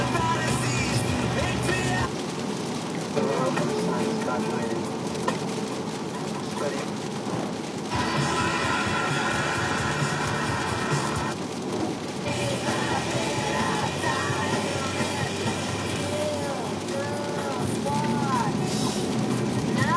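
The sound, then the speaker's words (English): Heavy rain drums steadily on a car, a dense, loud, unbroken hiss and patter that fills the whole clip, with muffled voices and low engine hum underneath. “Holy shit, it is raining hard.”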